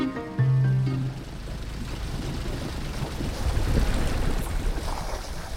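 Wind roars and water rushes steadily past a sailboat running fast on a broad reach at hull speed, with 18 knots of wind on the port quarter, in the evening; a loud continuous wash of noise, with a brief low droning tone near the start.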